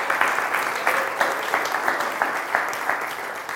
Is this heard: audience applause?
yes